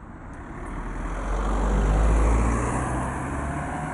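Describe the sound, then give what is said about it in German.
Cars and heavier vehicles arrive and drive away in front of a hotel at midday, engine rumble swelling as one drives past and then easing off, over a steady bed of traffic noise with no one speaking. “Es war reger Betrieb heute Mittag vor dem Hotel bzw. dem Hotel Ego King, wie es heute heisst. Autos sind her und weggefahren.”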